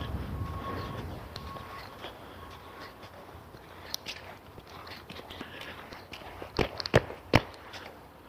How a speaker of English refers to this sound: I don't know why I'm stamping the snow off my boots. I'm just going to walk in more snow in a minute.